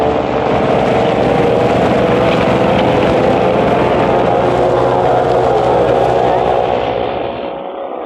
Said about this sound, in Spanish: Otra lancha más grande viene detrás de ellos. Pero cruza pronto, se les adelanta.